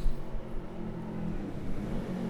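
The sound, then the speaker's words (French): A motorcycle engine rumbles with a low, steady drone and faint harmonic tones at the Place de la Bourse, holding at a fairly even loudness throughout; no clear key jingling stands out. “Des bruits de clés et une moto. Il y a beaucoup de motos.”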